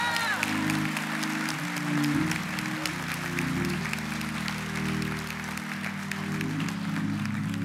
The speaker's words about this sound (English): If you believe that, give the Lord a biggest hand clap of praise for the next 30 seconds.